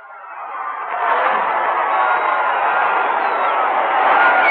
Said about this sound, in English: The carnival spirit prevails all up and down Times Square. We're just told that Wednesday and Thursday have been declared legal federal holidays, VJ days. Maybe you can hear the people screaming down there, ladies and gentlemen. Let's give a listen.